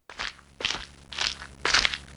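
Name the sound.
footsteps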